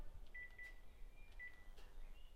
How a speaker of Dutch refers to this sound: Oh, kak, ik word nu gebeld. Ja, ik zet altijd mijn eigen telefoon op stil.